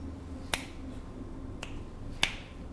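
Three crisp finger snaps made by a woman, at uneven intervals, sharp and bright, the middle one softer than the others, over a low steady background hum with no voices.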